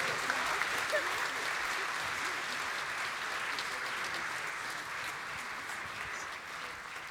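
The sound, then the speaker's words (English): An audience gives one last cheer for a group just prayed for, applauding steadily for several seconds, a dense, even wash of clapping with a few cheers mixed in, holding at a fairly constant loudness before easing slightly at the end. “Let's give them one last cheer.”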